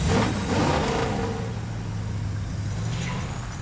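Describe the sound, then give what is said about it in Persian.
A powerful race car engine idles and revs with a deep, steady rumble and gritty roar, fairly loud throughout, with no one speaking. “بیا ببینم اون ماشین مسابقه مسخره چی کار بلده بکنه.”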